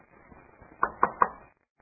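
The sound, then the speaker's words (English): A chair gets knocked three times in quick, even succession, each bump sharp, over a low murmur of room noise before things fall silent. “leave the chair alone.”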